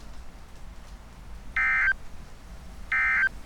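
Two short, steady electronic warning tones of a weather alert sound before a severe thunderstorm warning for counties including Mills, Pottawatomie, Harrison, Sarpy, Washington, Douglas and Saunders, each tone lasting about a third of a second, evenly spaced and loud over a quiet, low rumbling background.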